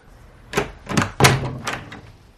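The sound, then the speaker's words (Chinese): A door being opened: a quick run of four or five solid clunks and rattles, like a latch and handle being worked, with no voices. “我是警察，开门。”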